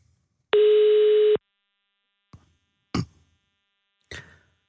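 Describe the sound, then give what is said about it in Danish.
A single loud burst of a telephone ringing tone, steady and electronic, lasting under a second, followed by a few sharp clicks and knocks like a handset being picked up, as a call is placed to a member of a Danish death metal band. “vi har fået lov at ringe til Sune for at høre, hvordan det stunder til”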